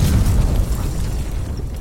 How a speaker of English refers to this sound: This is nothing but a harmless Life Day package. He begins to open the package and there is a loud explosion.